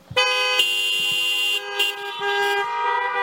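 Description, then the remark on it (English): A car horn blares in a long, sustained honk, loud, with slight pulses in intensity as it continues for several seconds over faint low traffic rumble. “Honk if you love Jesus.”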